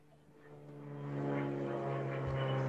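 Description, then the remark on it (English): A propeller airplane drones overhead, flying past a house, its engine hum growing louder over a couple of seconds as it passes, with a steady low tonal buzz and no voices. “As the plane is flying by somebody's house.”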